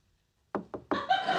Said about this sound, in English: He knocks on the open door.